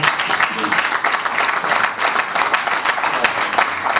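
A crowd at the Welcome Hotel applauds steadily in the evening to welcome the first female president of Legnano Calcio, many hands clapping in a dense, continuous patter that holds at an even, fairly loud level throughout, with no voices standing out above it.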